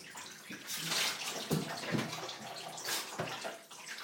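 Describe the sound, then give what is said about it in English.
Warm water runs steadily in a broad hiss, with splashes and sloshing bursts as a dog is washed in the tub; the flow stays fairly loud throughout. “At least it's warm water and it's not out the back with a freezing cold cold.”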